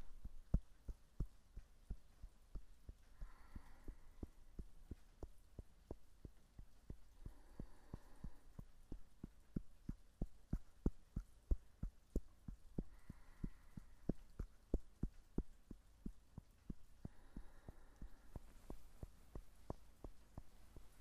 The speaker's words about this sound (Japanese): じゃあちょっと叩きますよ。お？痛くはないでしょ。軽くトントンと。